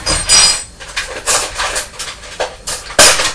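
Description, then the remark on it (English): Cutlery rattles and clinks inside a drawer as someone gets out a clean spoon, a busy run of bright metallic jangles rising and falling over a few seconds, ending with one sharper clatter. No one speaks. “Well, the one you were using before has fallen on the floor, so I'll get you a clean one out of the drawer.”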